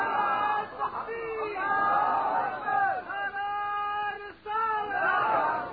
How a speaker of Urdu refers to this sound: اس طرح نہیں, اگر اس طرح کے نعرے لگانے ہیں تو مجھے چھٹی دیں آپ. نعرہ تکبیر, نعرہ رسالت, یہ بھی اس لیے کہ آخر بھی دائی ہے نا, اس لیے ڈھیلا نعرہ نہیں سنتا.